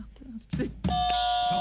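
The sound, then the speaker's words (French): Voices chatter briefly, then a loud electronic buzzer blares during a song-guessing game and holds steady, a flat sustained tone that keeps sounding to the end with some talk faintly beneath it. “Oh, on a un buzzer.”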